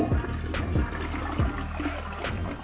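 A toilet flush sound effect: a steady, rushing gush of water with low gurgling thumps underneath, holding a fairly even loudness for a few seconds with no voices.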